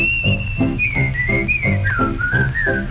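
A person whistles a bright, wavering melody, clear and close, carried over a steady bouncing musical accompaniment with regular rhythmic pulses underneath.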